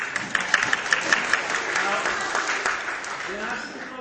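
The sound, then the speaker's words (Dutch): A crowd applauds a group of performers with steady, dense clapping that holds at an even level for several seconds, a few sharper claps standing out early on before it eases slightly toward the end. “Nou, even applaus.”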